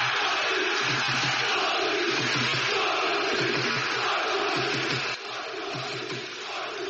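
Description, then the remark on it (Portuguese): A large crowd of Sporting football fans in Lisbon, Portugal, roars and shouts in celebration of the club winning the league championship, a dense, loud, continuous wall of cheering that holds steady for several seconds before dipping slightly near the end. “Em Portugal, após 19 anos de jejum, a 2 jornadas do fim do campeonato, os adeptos do Sporting puderam começar a gritar.”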